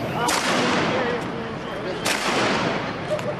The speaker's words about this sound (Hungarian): Járókelőre lő a vadászpuskás rendőr 2006. október 23-án. A felvételen az is hallatszik, ahogy a kollégái buzdítják, lőjön tovább.